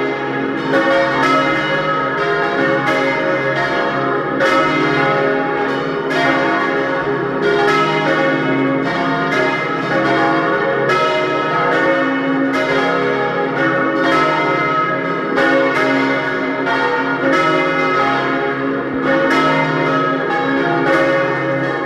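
Several church bells of the parish church of St. Martin in Dölsach near Lienz, East Tyrol, peal together at 12 noon in a loud, continuous, overlapping ringing, their strikes repeating steadily with a rich, resonant hum sustained throughout, no voices present.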